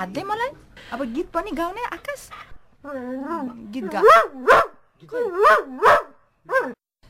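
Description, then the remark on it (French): A dog "sings" on command, letting out a series of wavering, yodel-like howls and yowls that rise and fall in pitch, with short pauses between the loud bursts. “Il chante. Ça, c'est chanter.”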